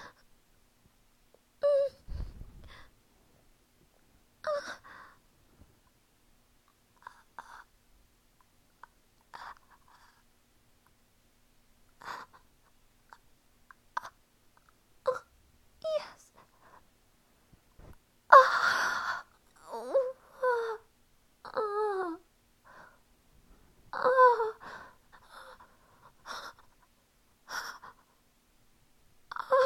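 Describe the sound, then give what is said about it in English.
Heavy, uneven breathing broken by pitched, wavering moans and sharp gasps, coming in short bursts with pauses between. The sounds grow denser and louder toward the second half. No words are spoken. “Breathing heavy and quivering.”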